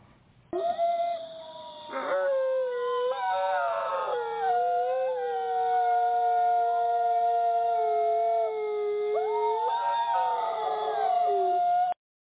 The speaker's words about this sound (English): Those are the wolves who howl.